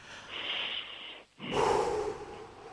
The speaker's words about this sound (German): Sollen wir nochmal gemeinsam richtig tief durchatmen? Ja. Okay, ich zähle bis 3 und dann atmen wir gemeinsam durch, okay? 1, 2, 3.